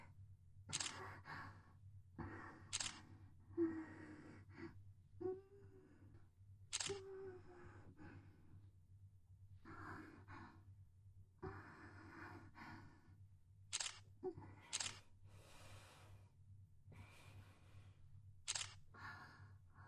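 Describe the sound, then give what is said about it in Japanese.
Sharp camera shutter clicks fire at irregular intervals during a nude photo shoot, some single and some in quick pairs, crisp over a steady low hum with faint breathy sighs between shots. “やばい、シャッター音がマンコに刺さる。”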